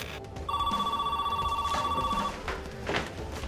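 A telephone rings for an unexpected incoming call, a single sustained electronic tone lasting almost two seconds, steady and fairly loud over a low background rumble, then cuts off, leaving faint noise.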